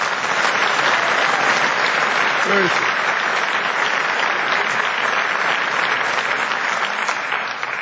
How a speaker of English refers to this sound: Give me a warm applause and please welcome this beautiful, beautiful young lady, ….